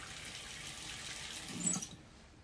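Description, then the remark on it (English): A bathroom tap runs in a steady, bright hiss for about two seconds as a man wets his face at the sink, with a short, fuller splash near the end before the flow cuts off into quiet. “Now he wets his face at the bathroom sink.”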